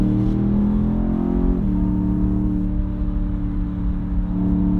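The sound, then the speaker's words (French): A powerful 530-horsepower V8 sports car engine with xDrive four-wheel drive accelerating, its deep throbbing hum climbing then briefly dropping at a gear change before pulling on steadily and loud, with no voices. “On est là sur un moteur V8 530 chevaux, souple et économe en mode EcoPro en ville.”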